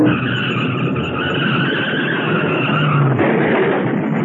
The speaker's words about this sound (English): Blinded, the driver lost control, smashing into a packing crate.